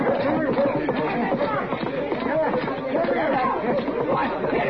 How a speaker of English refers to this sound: Sounds like a fight. Quite a crowd there